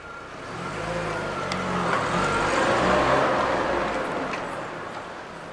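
A car carrying three people hums steadily as it drives into Fengtian city, its low engine rumble and road noise swelling gradually louder through the middle before easing off slightly, with no voices.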